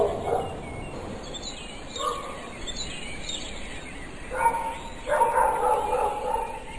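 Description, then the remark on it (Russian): Faint dogs bark in the distance, scattered yips at first, then a denser cluster of barks toward the end, over a soft hissing ambient background with no one nearby. “Несколько минут они стояли молча, прислушиваясь к отдаленному собачьему лаю.”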